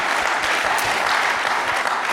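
An audience at a chapel gathering applauds to congratulate people receiving a recognition, a dense wash of many hands clapping steadily at an even, sustained volume with no voices rising above it.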